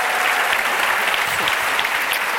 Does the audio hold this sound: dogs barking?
no